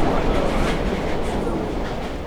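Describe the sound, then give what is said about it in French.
A metro train in Busan rumbles steadily along the rails, a loud, continuous low roar with faint rattling that stays constant throughout. “À 7h30, je descends les escaliers de 3 étages pour prendre le métro à Busan.”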